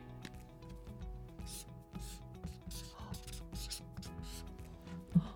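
Scratchy strokes of a pen or marker moving across a stiff shikishi autograph card as a guest writes on the theme of the secret to succeeding in the restaurant business, coming in quick irregular bursts over a steady low background hum, with no one talking.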